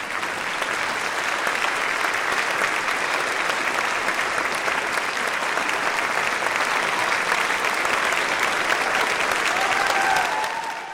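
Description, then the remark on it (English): A large concert audience gives a standing ovation as concertmaster Stephen Copes walks on stage, with dense, steady applause sustained at full strength for the whole stretch, a few brief cheers or whistles rising near the end. “When concertmaster Stephen Copes walked on, the crowd rose to its feet.”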